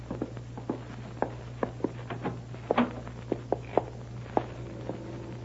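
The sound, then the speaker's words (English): Footsteps in a hallway, a steady series of sharp, clicking steps at an even walking pace, heard alone over a constant low hum with no talking. “Professor, yeah, I hear somebody in the hall.”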